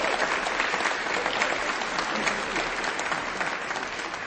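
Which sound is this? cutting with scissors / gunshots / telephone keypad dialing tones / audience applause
audience applause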